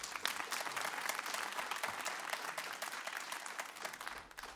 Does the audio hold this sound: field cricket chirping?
no